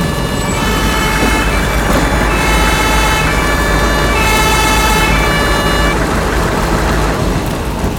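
A fire engine siren blares loudly and continuously, its tone holding with slight shifts in pitch over a heavy, rumbling engine and traffic noise, with no voices, as several fire brigade vehicles race onto a property where a shed is on fire.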